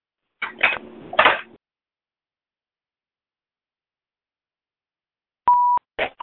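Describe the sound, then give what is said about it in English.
A short, steady electronic beep from a phone keypad, pressed to mute the phone line because of background noise, sounds once near the end, after a few seconds of quiet that follow some brief clattering handling noise. “I'm getting background noise, so I will mute the phone.”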